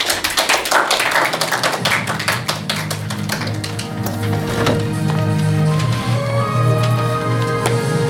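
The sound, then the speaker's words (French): A burst of rapid, overlapping hand claps from an audience in the theatre hall of the Lycée Lebrun in Coutances, applauding the work of the option students. The claps are dense and steady for a few seconds, then thin as a sustained tonal sound, like music, rises underneath. “Cette émission a été produite grâce aux élèves, au travail des élèves de l'option, que vous pouvez applaudir très fort.”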